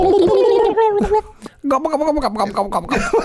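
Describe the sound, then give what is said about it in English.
A person imitates a turkey gobble with a warbling, rapidly fluttering vocal burst, pauses briefly, then launches into a second longer gurgling, chortling gobble; loud and mid-pitched. “I mean, it just seems so odd that the word gobble means to gobble something up, to eat something up real quick, and that happens to be the sound that a turkey makes when it's screaming.”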